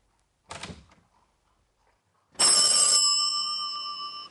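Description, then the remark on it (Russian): A telephone rings once, loud, its bright bell tone hanging and slowly fading, after a short clattering knock a couple of seconds earlier. No one speaks. “Товарищ Климов, вас срочно к телефону.”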